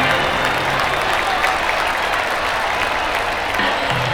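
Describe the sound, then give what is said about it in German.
An audience applauds steadily at the premiere of the musical 'Geheimnis im Meer', a dense wash of many hands clapping at once, loud and sustained throughout with a faint crowd murmur underneath. “Blauer Nebel stieg jetzt mit vielen Luftblasen vom Grund des Aquariums auf und das Publikum applaudierte.”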